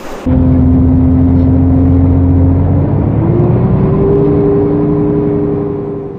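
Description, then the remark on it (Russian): Steady low engine drone heard from inside a number 50 city bus from Predmostnaya riding along Sverdlovskaya Street in Krasnoyarsk, with a sustained hum that shifts pitch slightly midway as it accelerates, continuous and fairly loud with no talking. “Пока я сижу в автобусе, расскажу вам об истории названия этой улицы.”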